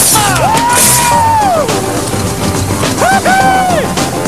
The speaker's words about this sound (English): The boat boys have breezed over the finish line. They're now ahead by 2 points. And there's a sporting round of applause from the opposition.